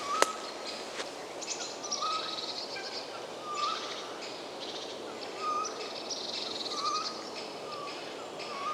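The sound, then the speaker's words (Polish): A Eurasian jay gives a clumsy imitation of a female tawny owl's calls in early spring, short hoarse notes repeated about six times at uneven intervals, over steady outdoor background noise. “To takie trochę nieudolne naśladowanie samicy puszczyka przez sójkę.”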